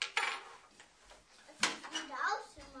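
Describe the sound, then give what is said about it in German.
Pots clatter and clink as they are handled, with two sharp metallic knocks standing out among lighter rattling, while a soft voice murmurs in between. “Das können wir dann mal als Kochtöpfe nehmen.”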